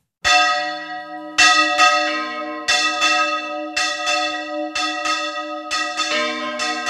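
Church tower bells in Spain, rung by hand by about half a dozen men and women, smaller and larger bells over a metre in diameter, ring out in a lively, irregular peal, strikes overlapping every second or so with long shimmering overtones. The ringing is loud, with no voices.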